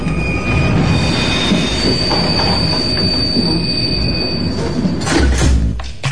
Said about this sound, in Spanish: Tremendo material, ¿eh? Ustedes lo escucharon, la militante y diputada chilena Camila Vallejo viajando en la cabina de un subte línea B conducido por un trotskista y aceleró la formación, ¿no? Por un lado esto pone en peligro a los pasajeros